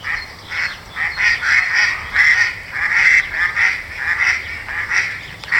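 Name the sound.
ducks quacking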